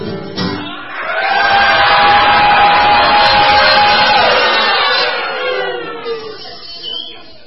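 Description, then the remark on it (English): A group of people lets out a long, loud primal scream together, many voices howling in unison for about four seconds before trailing off into scattered yells. “We'll get it all out. How? With a primal scream.”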